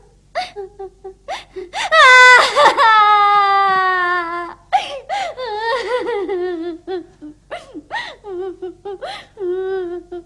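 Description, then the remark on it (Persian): A child bursts into a loud, drawn-out wail that breaks into choppy, hiccuping sobs, rising and falling in short bursts. “آه گریه نکن … عزیزم.”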